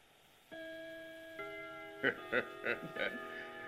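A clock strikes the hour at nearly one o'clock: a ringing bell tone, then a second one, followed by four quick, evenly spaced strikes, clear with no one talking.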